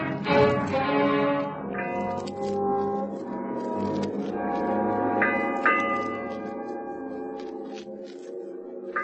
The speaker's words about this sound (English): Eight bells.